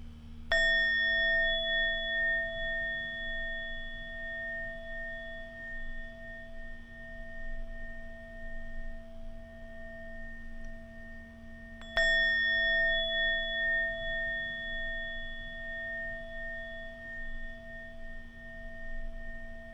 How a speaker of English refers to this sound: Feel the softness of God's presence around you as you listen to the ringing of the bell.